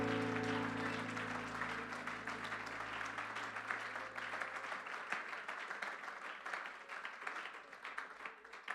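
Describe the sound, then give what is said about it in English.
An audience claps their hands in praise to the Lord before being seated, sustained dense applause, a steady roar of overlapping claps with a low hum underneath that fades out early on. “Give the Lord another hand clap of praise before you're seated.”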